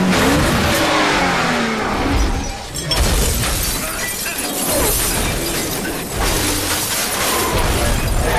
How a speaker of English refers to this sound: He leans down as the shots punch through the windscreen, driving by lying across the front seats looking at the mirrors. He reverses through some parked cars and right over the edge of the roof.